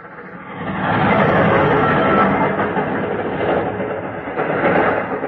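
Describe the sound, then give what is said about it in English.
A train passes a deserted level crossing: a loud, dense rumble swells in after a second and holds steady, with a faint rhythmic clatter of wheels and no voices. “It was the train that gave me the idea.”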